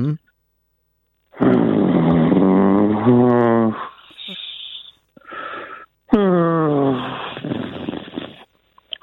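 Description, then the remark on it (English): A human voice imitates the breathing of a sad gorilla: long, loud, wheezy groaning exhales with sliding pitch, broken by a few short breathy huffs in between. “I could just off the top of my head and through my mouth, I could name, for example, the breathing of a sad gorilla, which would sort of sound like...”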